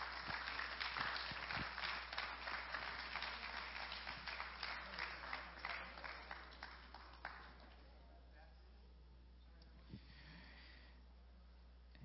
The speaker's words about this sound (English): Could we give them a round of applause, please?